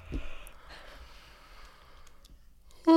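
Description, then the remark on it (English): Someone yawns, a long breathy inhale and exhale stretching over a few seconds, before a sudden loud voiced burst cuts in at the very end. “Are you gonna yawn? I don't feel one. Oh, there it is.”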